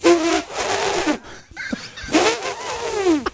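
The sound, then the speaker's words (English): A voice imitates the exhaust pipes the speaker made for his motorcycle, with two loud, rumbling revving bursts, the pitch rising and falling, separated by a short pause with a few quick clicks. “Hey, by the way, my pipes that I had to make my motorcycle, they sounded like this.”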